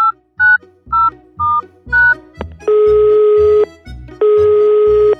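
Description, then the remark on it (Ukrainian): Five short touch-tone beeps are dialed on a telephone in quick, even succession, followed by two long, loud ringing tones with a buzzy edge, heard clearly with no voices. “Ну, давай я їм зателефоную.”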